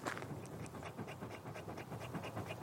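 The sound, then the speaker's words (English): A female dog pants rapidly and steadily after a run on a hot afternoon in early July, quick breathy huffs repeating in an even rhythm with no talking over them. “She's quite panty at the moment because she just went on a run with my wife.”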